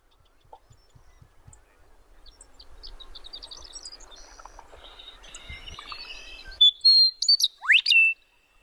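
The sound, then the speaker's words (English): Several red-winged blackbirds and other songbirds sing in a sunny meadow over a soft rustle of light wind, with scattered high chirps building to loud, repeated trilling calls and a sharp rising whistle near the end. “A light wind right now as several red-winged blackbirds and songbirds are”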